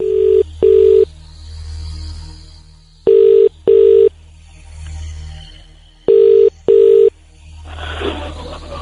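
An outgoing phone call's ringing tone, placed from a borrowed phone showing a private number, comes through the line in three double-pulse rings, each pair about three seconds apart, loud and steady over a low hum of line noise.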